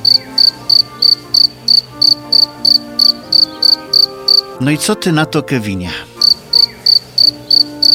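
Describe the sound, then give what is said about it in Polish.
A cricket chirps in a steady, even rhythm of short bursts, loud, pausing briefly while a man speaks before the regular chirping resumes. “Widzę, że uwiodła cię muzyka naszego świerszcza.”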